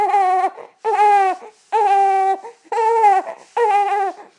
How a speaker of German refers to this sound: Das ist eine unheimlich hilflose Situation, wenn sein Baby da liegt und es schreit. Man möchte es hochnehmen, man kann es nicht.